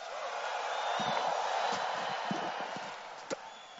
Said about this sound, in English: Stand on your feet with a shout of praise.